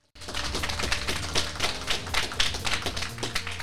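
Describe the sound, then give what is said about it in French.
An audience applauds a guest bookseller at a school class event for the Jeune en librairie programme, with dense, overlapping clapping that starts abruptly and holds at a steady, lively level for a few seconds, with a low sustained musical tone underneath. “Un tonnerre d'applaudissements pour elle, s'il vous plaît.”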